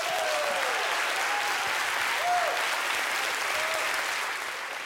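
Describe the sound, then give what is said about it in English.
Steady, sustained applause from a large audience, a dense wash of clapping that holds at an even loudness for several seconds before easing off slightly at the end, with a few faint whistles or cheers. “Applause one more time”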